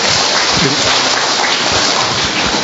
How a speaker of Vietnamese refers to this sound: Chúng ta một tràng pháo tay để chào người anh em này.